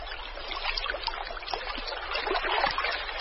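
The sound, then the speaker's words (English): Floodwater, from rain in the highlands of Angola, arrives in the Okavango in the Kalahari dry season, trickling over parched ground in a steady bubbling, gurgling wash with small splashes and no pauses, moderately loud, with no voices. “The water drives out insects from the parched ground, which are snapped up by plovers.”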